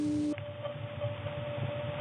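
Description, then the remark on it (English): A faint, steady carrier tone drones over a low, rumbling hum on a telephone trunk line. It holds unbroken throughout, with no voices. “Just a very hummy trunk, but what's left here, this is the carrier sound. That is how the 3700 Hz tone on an adjacent channel, which happens to be idle and or on hook at the moment, sounds when it bleeds over into this one.”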